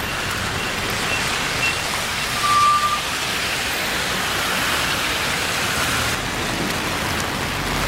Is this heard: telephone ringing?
no